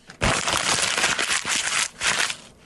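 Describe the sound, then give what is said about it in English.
A sheet of standard letter-size copy paper is crumpled for about two seconds, a dense, crackling rustle that swells in a few surges before stopping abruptly. No one speaks. “That's a lot of crumpling.”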